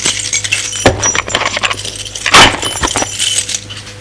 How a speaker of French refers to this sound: Avoir fermé la porte, elle remet les clés dans son sac et le sac dans la commode du couloir.